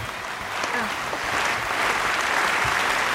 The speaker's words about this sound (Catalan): I tenim que les guanyadors del programa han sigut les cookies. Un aplaudiment.